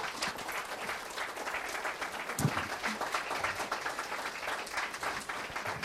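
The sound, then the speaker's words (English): A crowd applauds steadily for several seconds, a dense patter of many hands clapping at an even, fairly loud level with no talking over it. “Let's give Auntie a round of applause.”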